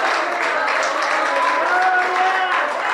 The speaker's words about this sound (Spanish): ¿Cuántos le alaban? ¿Cuántos le pueden dar un aplauso a Rey de Reyes y Señor de Señores? Aleluya.